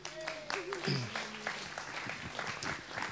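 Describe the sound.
An audience applauds, a dense, steady crackle of many hands clapping for about three seconds, with a brief voiced whoop or cheer rising out of it early on.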